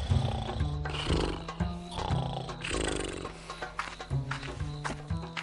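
A lion roars in deep, rumbling growls that swell and fade in several bursts, loud, with a busy background that includes what sounds like horse hooves.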